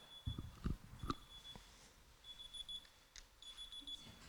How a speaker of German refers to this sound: Heute ist Freitag. Freitag ist Arbeitstag und da geht bei mir immer um diese Zeit ein Wecker an.